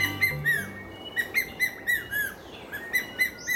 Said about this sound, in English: Quite a rhythm, huh? It might not be your average call for either a hawk or an eagle, but it's the distinctive call of the ornate hawk eagle.